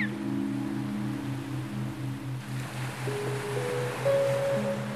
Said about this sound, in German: Gemeinsam lauscht ihr den Wellen des Meeres und hängt glücklich euren Gedanken nach.